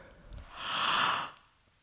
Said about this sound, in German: Geh nochmal? Gähne doch nochmal.